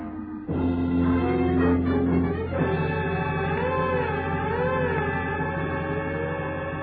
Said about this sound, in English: When I piled in, we took off, siren wide open.